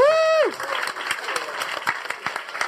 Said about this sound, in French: Bonne chance, on peut les applaudir, l'équipe rose